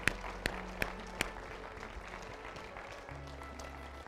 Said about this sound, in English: Folks, can we give the Lord a hand clap of praise?